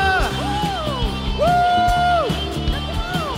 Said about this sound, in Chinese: 这时候，让我们就用最大的掌声、最大的欢呼来欢迎我们的神。耶，哈利路亚！